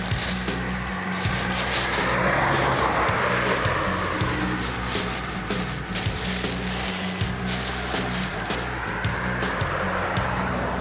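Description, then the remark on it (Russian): A car rolls in at a bus stop, its low engine rumble and tire noise steady and loud, as though it is slowing at the roadside. No one speaks. “Смотри, смотри, тормозят.”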